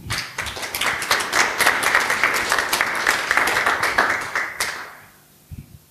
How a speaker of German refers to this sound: Ich bitte euch um einen herzlichen Applaus für Rena Tangens von Digital Courage.